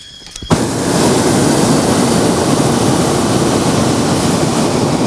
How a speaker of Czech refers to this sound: A vlastně ten veliký rozdíl je v tom, že třeba aspoň pro mě, že v tom plynovém balónu je naprostý ticho, je jenom sypání písku, a tady máme občas ten hluk z těch hořáků.